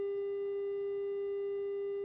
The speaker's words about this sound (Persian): ظاهرن ارتباطمون قطع شد، صدای بوقی که به گوش ما خورد.